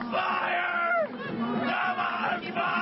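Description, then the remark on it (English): A man shouts a rhythmic "Kalima" chant from Indiana Jones while tearing apart a bloody heart, on top of a burning American flag, over a loud, steady roar of a cheering crowd, voices blending into a dense wall of yelling throughout. “That is a dude shouting Kalima from Indiana Jones while tearing apart a bloody heart all over his face while people cheer on top of a burning American flag.”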